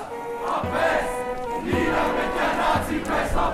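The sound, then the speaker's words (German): Several hundred demonstrators on a memorial march through Mössingen on a wet, cold January day, called by an alliance of left-wing organizations and trade unions, chant together in loud, rhythmic bursts, voices rising and falling in repeated waves over a steady murmur of many people. “Im Gedenken daran laufen heute, 90 Jahre später, im nasskalten Januar, wieder mehrere hundert Menschen durch Mössingen.”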